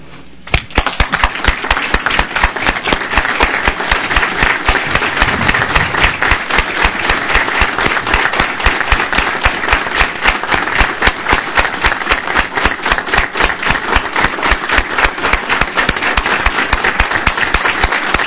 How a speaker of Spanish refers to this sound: En memoria de todas las víctimas del Holocausto y con mención especial a don Gilberto Bosques Saldívar, les solicito de la manera más atenta que nos pongamos de pie con un minuto de aplausos.